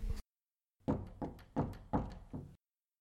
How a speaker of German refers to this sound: Es klopft an der Tür ein halbgruseliger Riesenverbrecher.